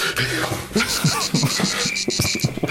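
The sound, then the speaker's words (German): A dense chorus of cicadas chirping, with a steady high buzzing and rapid pulsing calls layered together, fairly loud, no voices. “Können Zikaden überhaupt onanieren? Drei mal raten, was das für ein Geräusch ist.”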